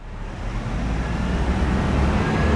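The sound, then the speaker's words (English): A steady roar of street traffic at a city bus stop on the corner of 45th and Guadalupe in Austin, with low engine rumble and a broad wash of tire noise from passing vehicles, swelling slightly and continuing without break. No one speaks. “She's waiting at the corner of 45th and Guadalupe for her bus.”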